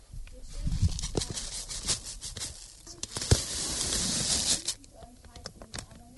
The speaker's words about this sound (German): macht gerade die Kokosraspeln auf und kippt die dann in die Rührschüssel.